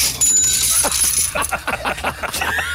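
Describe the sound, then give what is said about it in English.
A sound effect of three coins dropping one after another onto a hard surface, with bright metallic clinks and jingles ringing out over a little under three seconds. Nobody speaks. “That's three coins coming out. 1, 2, 3.”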